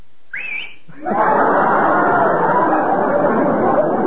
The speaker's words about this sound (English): I'm going to be daring. I'll whistle to them lightly. I wonder if they whistle back.